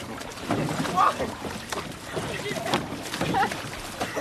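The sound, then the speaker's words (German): Water churns and splashes around a small rowing boat as it capsizes, with a few sharper slaps of water breaking through a steady noisy wash and wind, while voices talk. “Seid ihr auch schon mal gekentert? Nee. Ja, es gibt für alles ein erstes Mal. Wasserschlag!”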